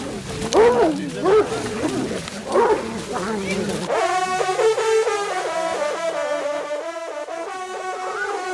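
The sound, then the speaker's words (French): Several dogs snarl and growl in rough, overlapping bursts while tearing apart and devouring an animal carcass, then the noise shifts into a steadier, continuous chorus of whining and yelping. “Les chiens sont en train de manger la bête.”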